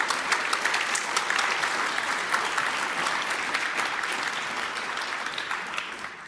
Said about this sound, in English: Please give a warm round of applause for them for the talk.